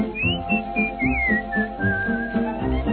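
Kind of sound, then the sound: human body sound, whistling a melody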